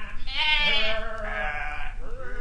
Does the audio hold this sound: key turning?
no